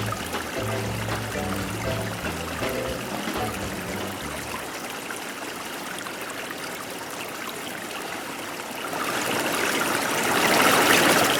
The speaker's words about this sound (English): It can sound a little different though when you have just the sound of the flow of the water.